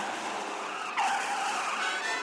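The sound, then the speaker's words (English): Car tires skid and squeal loudly as a car with failed brakes goes out of control coming down a hill, a continuous screech that sharpens and rises abruptly about a second in, with no one speaking. “Where are the brakes? I'm out of control.”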